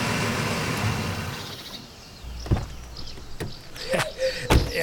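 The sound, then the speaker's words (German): An old pickup truck's engine rumbles and fades as it pulls up, followed by a couple of sharp door thumps and faint rustling, with no one speaking. “Kurz darauf kam ein Wagen angefahren. Es war der alte Pickup von Onkel Titus.”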